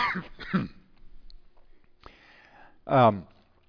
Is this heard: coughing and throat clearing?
yes